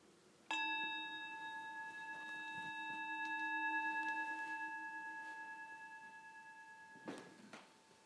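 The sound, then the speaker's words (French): A single meditation bell is struck once, its clear, steady tone with bright overtones ringing out and slowly fading for several seconds, followed by a soft rustle near the end. “Et au prochain son de cloche, je propose que nous nous levions pour nous saluer.”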